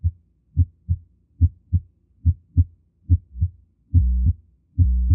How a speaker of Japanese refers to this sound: でこれは心房なんですが、シミュレーターのためにやや変わった音に聞こえています。再びダイヤモンド型雑音。